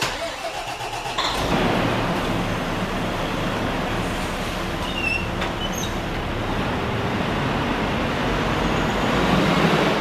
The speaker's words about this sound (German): Das ist ein Rosenbauer Flughafenlöschfahrzeug Panda. Neueste Generation, haben wir jetzt heuer 3 Stück bekommen. Löschleistung, er hat 12.500 Liter Wasser dabei, 1.500 Liter Schaummittel, 250 Kilogramm Pulver, absolut geländegängig,